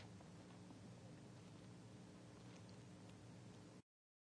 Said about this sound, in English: It's good to hear the pages turning on a Sunday morning.